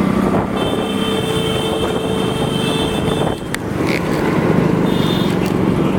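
Steady, loud roar of heavy road traffic with many vehicles, engines droning and a brief whine passing partway through; no voices, just a dense, continuous wash of vehicle noise.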